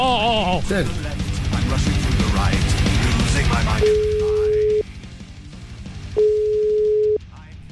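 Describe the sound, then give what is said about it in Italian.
A telephone ringback tone sounds twice, each a steady one-second beep separated by a short pause, following a few seconds of busy talk and background noise as a call to Peru goes through. “Io le farei una telefonatina nel lontano Perù. Vai regia col numero!”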